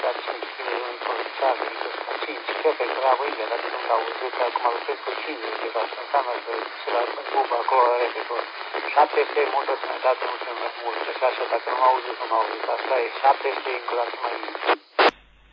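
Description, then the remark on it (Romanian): A weak, noisy amateur radio transmission via a repeater from a station running 50 watts, with band-limited, crackly voice chatter under a steady hiss, ending with a sharp squelch burst as the signal drops. “Da, Roger, am înțeles că vii cu 50 de bați, dar din păcate repetorul nu te ajută foarte mult.”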